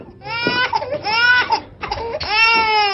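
infant crying

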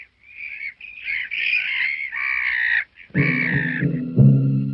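seagulls calling

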